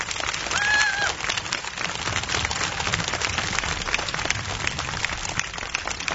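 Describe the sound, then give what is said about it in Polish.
Steady, dense applause from a crowd of children thanking a visiting bishop, a continuous patter of many small hands clapping at an even loudness for several seconds, with a brief high whistle-like tone early on. “A my oczywiście dziękujemy dziecięcym uśmiechem, radością w sercu i naszymi oklaskami.”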